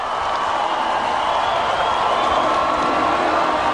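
A crowd of 65,000 people in London's Hyde Park on July 1st, waiting for a band's concert to start, sings together, thousands of voices merging into a dense, steady roar with a faint melodic hum inside it, loud and unbroken throughout.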